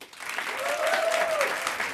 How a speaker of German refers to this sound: Jetzt euer Applaus für die Frage von David.